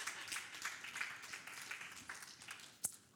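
An audience applauds the speaker's wife, a soft, steady patter of many hands clapping together for about three seconds with no talking, and one sharper clap stands out near the end.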